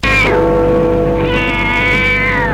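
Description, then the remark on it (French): A cat in front of a house outdoors on a mild night meows loudly, two drawn-out, wailing calls that bend in pitch, the second longer and sustained, with no talking. “Devant la maison, le chat.”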